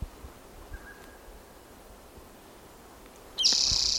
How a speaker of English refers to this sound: This bird was not collected, and it may be the same bird that I recorded on May 4th, 2018. It's in the same general territory.